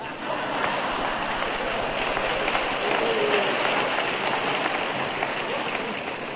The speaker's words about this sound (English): Look at all those men clapping. And they're the ones that sit for 4 hours watching football.